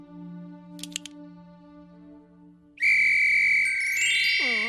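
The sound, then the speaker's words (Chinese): A whistle blasts loud and shrill for nearly two seconds, then wobbles into warbling dips as it fades. Before it, soft low hum and a couple of faint clicks. “对了，小虫哥，你不是有哨子吗？既然哨子能叫回我的钱包，没准儿也能叫回我的快乐和感恩啊。”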